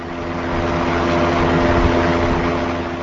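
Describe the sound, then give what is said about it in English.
A fan blows air out of a cattle barn on a farm in the Town of Carlton, Wisconsin, about a mile northwest of a nuclear plant, in a steady, loud whoosh with a low humming drone running underneath the whole time. The sound stays even and unbroken throughout, with no voices. “A fan blows air out of the cattle barn at the Poplums farm about a mile northwest of the nuclear plant.”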